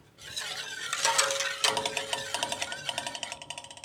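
A spoon stirs a pot of a mixture with water on the stove as it is brought to a boil, scraping and clinking against the sides in a steady, quickening rhythm of light metallic taps, with a faint hum underneath and no talking.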